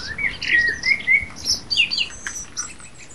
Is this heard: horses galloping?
no